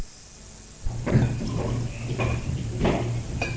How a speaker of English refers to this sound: Would you pour the water into this white cup over here, please, for me?